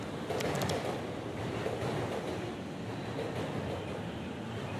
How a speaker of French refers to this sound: À l'instant où je t'écris, le dernier métro pour Yokohama s'apprête à quitter la gare de Shibuya. Assis sur un banc entre deux quais, j'attends mon train.